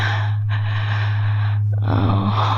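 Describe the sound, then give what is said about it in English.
Heavy, loud breathing from a man: a long ragged exhale, a brief pause, another long breath, then a rougher gasping breath, all over a steady low hum and with no talking. “Oh, he's breathing hard now.”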